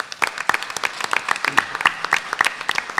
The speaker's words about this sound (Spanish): Con aplauso y todo.